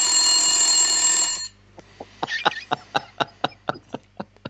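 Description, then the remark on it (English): A loud, bright egg timer bell rings continuously for about a second, then cuts off and gives way to a steady run of sharp mechanical ticks. “That's the egg timer for now.”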